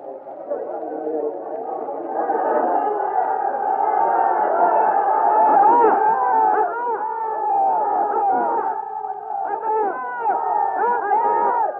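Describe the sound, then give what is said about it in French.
A large angry crowd shouts "death to the assassin" together in a continuous, loud roar of overlapping voices, with individual cries rising above the mass throughout. “La foule crie en ce moment à mort à l'assassin.”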